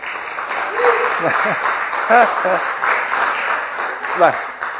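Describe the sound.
An audience claps steadily for several seconds, a dense wash of many hands at moderate loudness, with a few scattered voices calling out over the applause.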